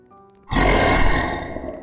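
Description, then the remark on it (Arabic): A loud, rough creature growl bursts in suddenly after a brief quiet moment, deep and guttural with a pained edge, holding for over a second before gradually easing off, made by a creature as it drags away its prey, a wolf. No one speaks. “صوت زمجرة قلم طلع من الشيء وهو بيشد فارسته، زي ما يكون الضوء بيحرقه.”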